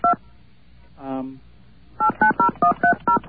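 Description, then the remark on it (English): Touch-tone keypad beeps entering a payphone's telephone number, including area code, into an automated phone system: one dual-tone beep, a short voiced murmur, then a quick, evenly spaced run of seven loud, clear keypresses. “Please enter the telephone number, including area code, of the payphone.”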